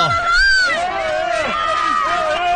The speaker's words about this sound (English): As some in the crowd jeered, Fitzpatrick looked stunned.